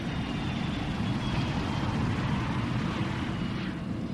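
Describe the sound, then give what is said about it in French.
A steady, loud engine roar with a heavy low rumble as a Yemenia Airways Airbus A310 airliner takes off on a flight to Moroni, Comoros, continuous throughout with no voices. “L'avion décolle.”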